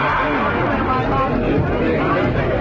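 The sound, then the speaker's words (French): A crowd shouting and crying out in a dense, continuous din of many overlapping voices. The noise stays loud and steady throughout, with no single voice standing clear of the mass. “D'où viennent ces cris?”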